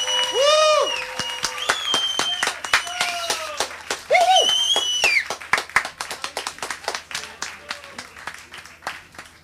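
An audience applauds a live band with dense, steady clapping punctuated by sliding whistles and cheers, gradually thinning toward scattered claps near the end.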